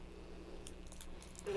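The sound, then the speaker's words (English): Keys jangle in a few light, scattered metallic clinks, building to a brief, louder rattle at the very end, with no voices. “Keys. They make noise, huh?”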